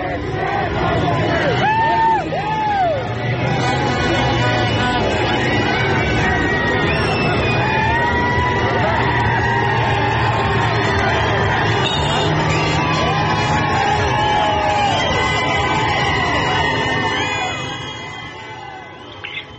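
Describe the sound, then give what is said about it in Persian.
A large crowd celebrating in Sanandaj, Iran, shouts "freedom fighters" and cheers loudly and without pause amid firecrackers, bangs, whistles and dancing, many voices overlapping with high rising whoops and whistle-like calls, fading slightly near the end. “یک صدا داریم از سنندج که با فریاد جنگجویان آزادی است، ولی صدای فشفشه و ترق و صوت و رقص و همه رو با هم میشنویم.”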